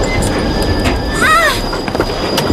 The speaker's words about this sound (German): Warum haben sie die Notbremse gezogen?